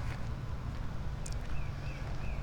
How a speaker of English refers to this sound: All right, I can hear an annoying lawn tractor. Is it coming this way?